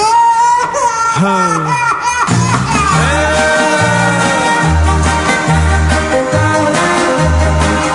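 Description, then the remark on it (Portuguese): A wailing, baby-like cry with sliding pitch rises over the opening seconds of an upbeat song, then a steady beat and bass carry on beneath the music. “O tal garotinho vive atrapalhar. Não deixa o meu broto de amor falar. Na hora do romance, quando vou beijar, escutem só.”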